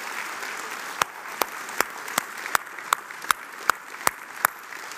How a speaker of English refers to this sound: Now I'm going to ask you all to join me in giving all the moms a rousing a bit of applause because I felt like I was by myself when I did that. Come on and show the moms some love, y'all.